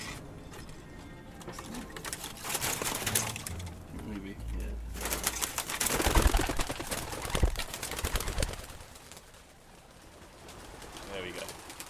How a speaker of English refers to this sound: Pigeons fly directly above, circling through the air over John's house like a helicopter preparing to land. So they've all, you see, they're a bigger group now. They've all joined up. Most of them have. 13, 14, 15, 16, 17. Yeah, that's all of them.